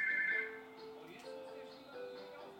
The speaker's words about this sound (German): So, jetzt klingelt hier das Telefon. Ich kann jetzt nicht rangehen.